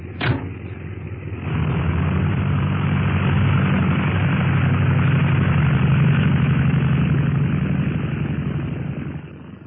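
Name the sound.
airplane engine running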